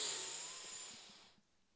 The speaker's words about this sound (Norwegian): Pust godt inn med nesa.